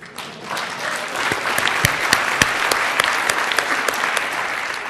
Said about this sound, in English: That's what the clap was about. Geeks rule. Geeks rock. Yeah. It's cool. Yeah, all right, let's stop. Up an applause for the geeks that are in the room.